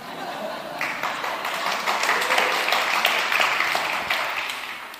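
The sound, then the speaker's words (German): An audience in Klagenfurt, Austria, applauds steadily, a dense wash of many hands clapping that swells quickly, holds at a fairly loud level for several seconds, then begins to taper off. “Applaus für den Kommunismus in Klagenfurt.”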